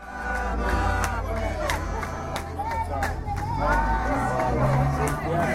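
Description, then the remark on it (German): A group of women and men in traditional African garments at a street intersection in Soweto, South Africa, under blazing sun, shouts and calls out together while sharp claps and thudding foot stamps punctuate the noise in an uneven rhythm, loud, with a steady babble of voices underneath. “Die Frauen und Männer klatschen, rufen, stampfen mit den Füßen.”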